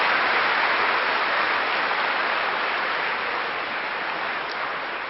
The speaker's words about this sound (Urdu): اس لیے زوردار تالی ایک باری بجا دو, ویسے تو ساؤنڈ کی ضرورت نہیں.